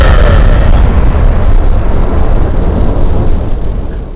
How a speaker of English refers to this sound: Kaboom, big explosion.